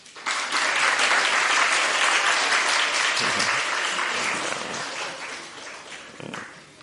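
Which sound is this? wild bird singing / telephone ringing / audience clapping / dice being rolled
audience clapping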